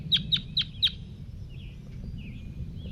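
A crossbill, the bird 5-3, calling to a flock of wild crossbills: four sharp, high chip calls in a quick, even series, followed by a few softer, fainter chirps, all over a steady low rumble.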